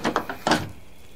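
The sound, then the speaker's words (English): A back door is unlatched and opened after a makeshift deadbolt lock, a wooden spoon, is removed: a quick series of wooden clicks and knocks, four or five sharp transients within half a second, followed by a soft fading scrape, heard alone without talk. “Sam removes a makeshift deadbolt lock, a wooden spoon, to open the back door.”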